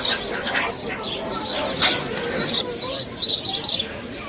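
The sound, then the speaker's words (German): Meerkats chirp and squeak back and forth, calling to each other in a busy overlapping chorus, high twittering calls repeating steadily for several seconds over a rough outdoor background. “Und so klingt es, wenn Erdmännchen miteinander sprechen.”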